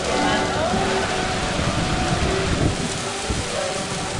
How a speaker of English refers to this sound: The music can't compete with the downpour, but there is refuge in a classroom.